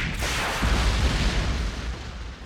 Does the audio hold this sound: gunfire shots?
yes